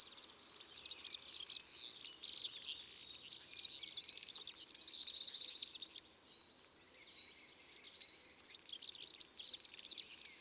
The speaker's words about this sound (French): La voix du serin est aiguë et grinçante.